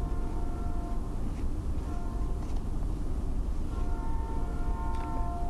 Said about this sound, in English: How is this train distracting me? It's because I can hear it in the headphones. That's the only reason.